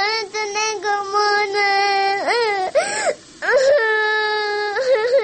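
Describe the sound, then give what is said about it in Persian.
A girl wails and sobs loudly in long, rising and falling cries, with brief breaths and whimpers between them, continuous throughout. “سقی سرت شام دخترم، گریه نکو.”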